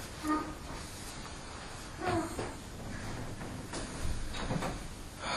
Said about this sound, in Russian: Так, дверь лучше прикрыть, наверное. Там. Кто-нибудь прикройте дверь, пожалуйста.